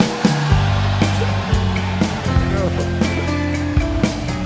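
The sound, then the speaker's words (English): A roaring, airy vacuum cleaner played like an instrument by a musician during a set in Vail, Colorado, as snow fell. Its whine steps between sustained pitches about twice a second, loud, with occasional sharp taps cutting through the rushing noise. “The snow fell in Vail, Colorado, when … played the vacuum and ruined your set.”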